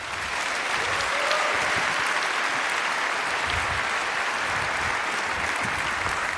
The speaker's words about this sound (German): Und damit nochmal einen großen Applaus für die beiden.